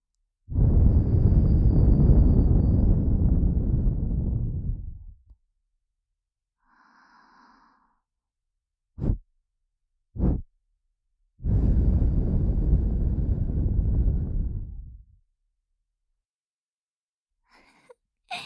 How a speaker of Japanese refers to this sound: どうです？びっくりしました？風放りからの吐息攻撃に思わず驚いたことでしょう。